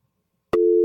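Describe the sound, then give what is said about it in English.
A sharp click on a call-in phone line, as a caller is taken, gives way to a steady, loud electronic telephone tone, the start of a busy signal, holding to the end with no voices. “Oh, that didn't work out the way we wanted it to work out. Give us a call back.”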